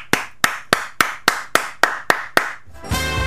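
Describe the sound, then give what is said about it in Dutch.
Nine sharp hand claps at a steady, fairly quick pace, each crisp and loud, followed by a sustained buzzing tone with musical overtones that starts just after the last clap. “Ik ga er even voor klappen.”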